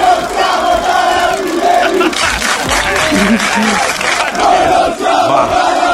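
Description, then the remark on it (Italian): A large crowd of Italian finance police (finanzieri) chant and shout loudly in unison, shouting great esteem for the carabinieri in front of 8,000 people. A dense roar of many voices with rhythmic rises and bursts of cheering throughout. “Questi sono i finanzieri che, insomma, ieri circolava questo video dove urlavano grande stima per i carabinieri.”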